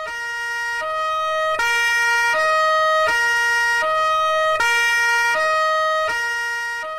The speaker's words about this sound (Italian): Nella piazza di Roiano, dove abitavo, una notte arrivò la volante a sirene spiegate.